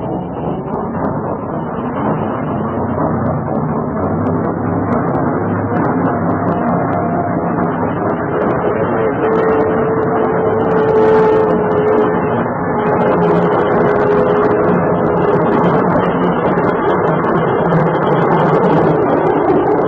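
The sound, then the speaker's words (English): The 417 train rumbles steadily past on the track, a loud continuous mechanical roar that holds for the whole stretch, with a thin whining tone rising briefly around the middle. “says for you to clear the empties off the track so the 417 can come through.”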